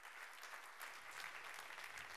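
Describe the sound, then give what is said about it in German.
An audience at a live stage event claps steadily to welcome Sandra Navidi, a dense, even wash of many hands with no break and no voices over it, holding at a moderate level throughout. “So, einen großen Applaus an Sandra Navidi.”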